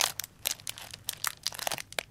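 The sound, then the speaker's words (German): Cellophane being gently crinkled to mimic a crackling campfire: a steady run of irregular, crisp crackles and small snaps, bright and hissy, with no voices. “Dafür habe ich hier eine Zellophanfolie. Und die kann ich knistern lassen, ganz vorsichtig. Dann klingt es so wie das Knacken des Kaminfeuers.”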